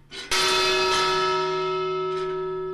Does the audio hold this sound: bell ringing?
yes